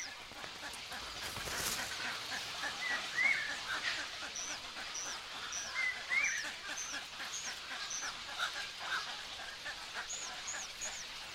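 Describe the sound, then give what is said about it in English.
Egret chicks, just delivered an eel by their mother, call over and over in short, high, scratchy squawks and rising chirps, fairly steady, against a constant hissing background with no talking. “These chicks have just had an eel delivered by their mum.”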